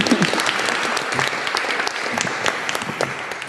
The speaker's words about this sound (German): Nochmal ganz, ganz herzlichen Glückwunsch an Sie drei. Genau, ein Applaus.